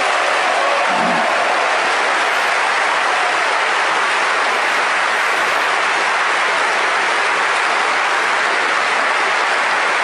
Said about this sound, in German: Ja, dann haben wir Applaus dafür. Offenbar sind alle der Meinung.